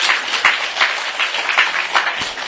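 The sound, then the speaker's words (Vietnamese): A crowd breaks into steady applause, dense overlapping claps with a few sharper individual hits standing out, sustained and fairly loud throughout with no one speaking. “Con đầu 19 tuổi, con nhỏ 13 tuổi, cho tràng pháo tay, tuổi trẻ tài cao.”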